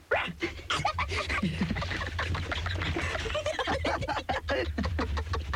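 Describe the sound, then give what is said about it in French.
Several voices yap and yelp in rapid, overlapping bursts, imitating dogs. The noisy vocal barking is fairly loud, with a steady low hum underneath. “Vous faites les chiens? Bah oui, on fait les chiens.”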